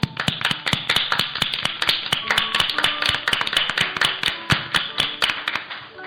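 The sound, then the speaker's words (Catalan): A crowd in a hall bursts into applause, everyone clapping in a dense, steady patter that holds for several seconds without anyone speaking. “Després es va passejar per tota la sala mostrant les orelles i tothom li va dispensar una bona salpa d'aplaudiments.”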